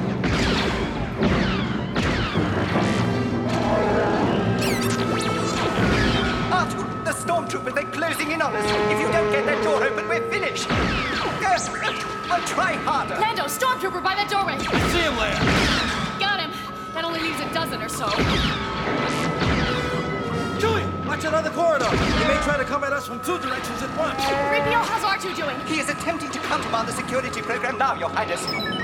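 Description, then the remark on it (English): Imperial stormtroopers open fire on Leia, Lando, Chewbacca, C-3PO and R2-D2, who are trapped by a locked blast door while escaping to the Millennium Falcon. Rapid, overlapping blaster shots crackle and zap, with crashes and bangs mixed in, voices shouting over the din, and a steady electronic tone running underneath. “As Imperial stormtroopers open fire on them.”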